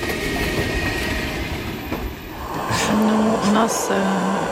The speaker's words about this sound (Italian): guardo queste famiglie che dormono appoggiate ai loro trolley colorati, vestite da neve come se dovessero andare in settimana bianca, su un treno notturno che da Vinnytsia porta a Leopoli, mentre si lasciano alle spalle le loro città bombardate.